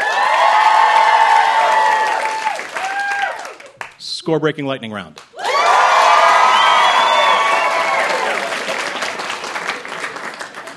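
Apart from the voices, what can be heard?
audience applause and cheering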